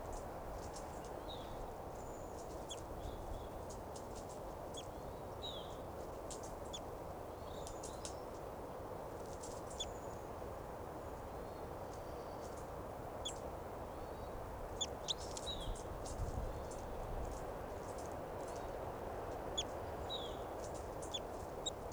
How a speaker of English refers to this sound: Fighting calls there by both birds, 387 and the wild bird, wild adult female here.